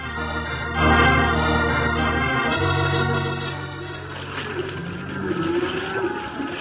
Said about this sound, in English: But Devlin and his men tied Bill up in the wheelhouse, and minutes later, the big paddle wheels had churned the Delta Belle into the middle of the big Missouri River.